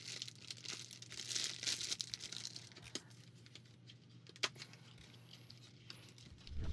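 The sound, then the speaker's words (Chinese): Crisp crinkling of the plastic or foil wrapper of a box of chocolates, handled in irregular bursts that are busiest early on, with a sharp snap or tear partway through and a low hum underneath. “喏，我拿了一盒巧克力，要吃吗？”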